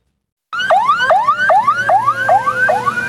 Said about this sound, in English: A single ambulance drives through the desert tonight near the holy city of Najaf in search of final rest.